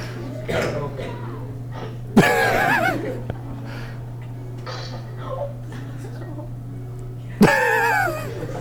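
Two sudden, loud yowls from cats startled by cucumbers in a video, a few seconds apart, each a sharp wavering cry over a steady low electrical hum with faint shuffling noises between them.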